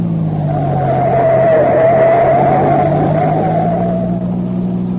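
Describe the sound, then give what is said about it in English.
A green sedan's engine roars steadily at high revs, with a rising and falling whine and a gritty, scraping hiss of tires throughout, as the car speeds with its lights off and turns sharply right onto a gravel-surfaced road that intersects the highway. “The driver of the green sedan extinguishes his lights and turns sharply to the right.”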